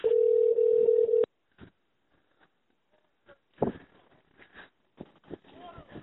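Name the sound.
telephone ringing tone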